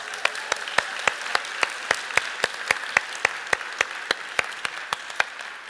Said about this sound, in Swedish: Kan vi inte göra så att vi ger era pastorer en stor applåd här?